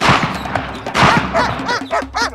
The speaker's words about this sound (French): Annelise, posée quelques courtes secondes sur un beau manguier en fleurs, décolle lourdement et prend de la hauteur, échappant de justesse aux deux coups de fusil.